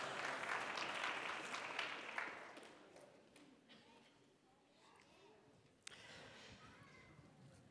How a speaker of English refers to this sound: Yes, thank you. Round of applause. Thank you.